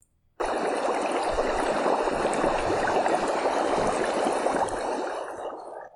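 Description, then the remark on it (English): Steady, dense bubbling and churning water of a two-person hot tub atop the Butterfield Park Water Tower fills the whole stretch, fairly loud, with a constant frothy hiss of jets agitating the tub. No voices. “And now, podcasting from a two-person hot tub high atop the Butterfield Park Water Tower,”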